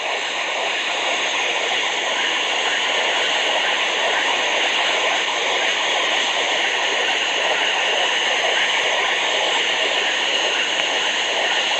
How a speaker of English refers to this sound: In the following examples, you will hear a submarine at close range, then at long range. In both cases, the submarine is at periscope depth and at a speed of 6 knots. First, the sub at a range of approximately 200 yards.